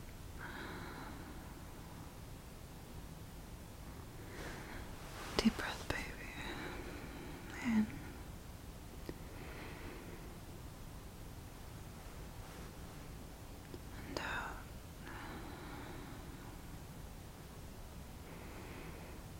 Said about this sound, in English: Can you feel my camp breath on your neck? Try to breathe with me. In. And out.